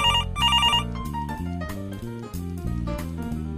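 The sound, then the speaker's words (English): Two quick bursts of a warbling electronic telephone ring at the start, bright, then a bouncy musical backing continues on its own with no voices. “I talk on the phone.”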